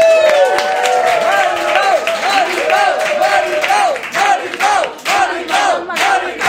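A loud audience bursts into sustained applause mixed with excited cheering and whooping voices, dense clapping filling the whole stretch with rising shouts on top.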